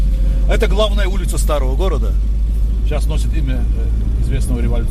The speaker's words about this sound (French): La voiture remonte la vieille ville jusqu'à la citadelle Narinkala.